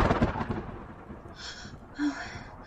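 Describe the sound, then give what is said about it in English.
A low, rolling rumble of thunder, fairly faint, swelling at the start and then trailing off over a few seconds with no one speaking. “The thunder.”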